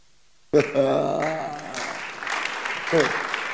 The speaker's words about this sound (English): Two Christians are clapping.